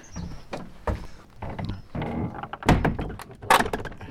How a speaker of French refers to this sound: Là déjà, les premiers travaux, puisqu'il y a une volée de marches en bois pour descendre quoi, environ 1,50 m, une porte magnifique, en train d'ouvrir.